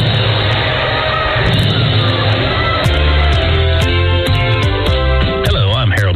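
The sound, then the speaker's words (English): A loud, sustained roar from a large crowd of Fort Recovery fans cheering in a gym at a basketball game, during a timeout with 1:58 left in the fourth quarter and Fort Recovery up 42-41, with scattered shouts and yells rising out of the dense wash of noise throughout. “It is for the Indians, and the Fort faithful is rocking tonight.”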